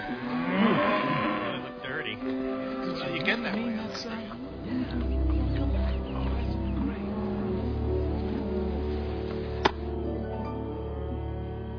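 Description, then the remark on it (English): A herd of cattle mooing, several long, low bellows overlapping, with a steady rumble of movement and murmuring voices underneath. “These cows trusted us.”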